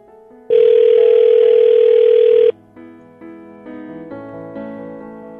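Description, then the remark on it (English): A loud, steady phone ringback tone on an outgoing call sounds once for about two seconds, followed by a series of quieter stepped electronic tones on the line. No one speaks. “Phone's ringing.”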